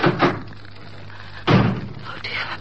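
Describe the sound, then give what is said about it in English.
A kitchen door that leads outside is handled twice: a first knock-like clunk as it opens, then about a second later a louder, heavier thud as it swings shut, against a low steady hum. “There's a door in the kitchen that leads outside.”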